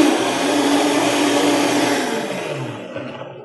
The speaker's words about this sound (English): All right, now basically you just want to blend it so you don't hear the crackling anymore. When you hear crackling and stuff like that, that means that the cashews are still there, bits and pieces.